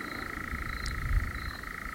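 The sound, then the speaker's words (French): A bird perched in a tree sings one unbroken, buzzing trill at a steady mid-high pitch, droning on like a small Solex moped engine, with a soft low rumble underneath and no voices. “C'est lui qu'on entend là. Ouais, c'est lui qui chante en plus.”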